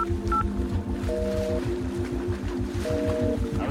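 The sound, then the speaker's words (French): A mobile phone gives off a few short electronic tones as it calls the last dialed number, each a steady beep, heard over a continuous low, rhythmic chugging rumble that runs throughout. “Je le prends et j'appelle le dernier numéro composé.”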